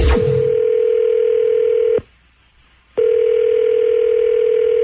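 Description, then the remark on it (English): A brief click, then a steady electronic telephone ring tone on the line as a call is placed for a government survey; it stops for about a second and comes back, loud, with no one talking. “Don't ever answer your phone. It could be the Senseless Bureau calling.”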